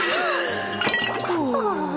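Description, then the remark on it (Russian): A quick, loud burst of dishes clinking and clattering together near the middle as they are washed in soapy foam and plates get broken, with a sustained tonal backdrop running underneath throughout. “Вы же могли всю посуду разбить!”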